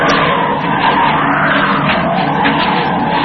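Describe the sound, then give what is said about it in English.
A loud, steady roar of an airplane plunging into a tailspin dive, a harsh engine whine that holds full force for a few seconds with no voices. “He just went into a tailspin.”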